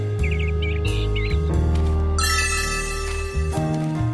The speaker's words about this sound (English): She hears a bird.